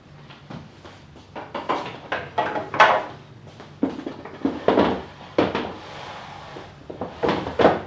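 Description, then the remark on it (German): Two chairs are set down at a table, with a run of wooden knocks, scrapes and clunks spread unevenly over several seconds, moderately loud, with no talking. “Ich stelle noch zwei Stühle an den Tisch.”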